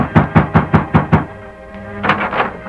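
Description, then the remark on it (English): Six firm, evenly spaced, loud knocks on the wooden door of a ranch house, followed by a low sustained tone and a couple of softer, muffled thumps. “The masked man halted in front of Amos Todd's ranch house, dismounted and rapped on the door.”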